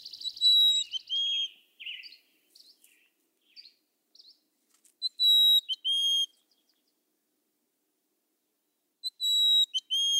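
A mountain chickadee from the Sierra Nevada sings clear, high whistled notes in short phrases, with a few softer chips between them, separated by pauses; no one speaks.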